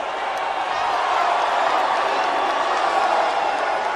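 A large, unsympathetic crowd reacts with a loud, steady roar of mingled voices that holds at an even level throughout, with no single voice standing out and no clear clapping rhythm.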